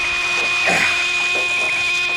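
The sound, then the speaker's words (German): A stuck car door strains and grinds as people force it open to get a woman out, with a harsh scraping creak that swells in the middle over a steady mechanical hum. No voices. “Die Tür klemmt.”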